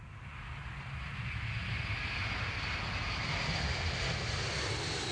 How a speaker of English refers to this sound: As Pope Benedict's plane touched down on the tarmac of the international airport at Santiago de Compostela, it could hardly be seen for the thick fog that dominated the skyline.